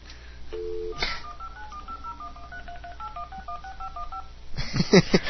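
A rapid string of telephone keypad touch-tones beeps out in a quick, even rhythm as a phone number is dialed, each short dual-tone blip clear, followed by a burst of noisy clicks at the end.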